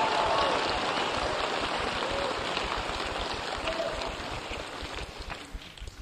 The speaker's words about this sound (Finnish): Annetaan kunnon aplodit Jeesukselle. Halleluja!